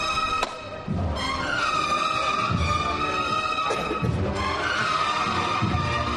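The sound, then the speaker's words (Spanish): A single sharp metallic knock from the hammer knocker of a procession float (paso) on Holy Wednesday at Plaza de la Campana, followed by a brief pause and then a brass band playing the march Rosario de Cádiz loudly over a steady, booming bass drum beat. “Suena de nuevo el martillo.”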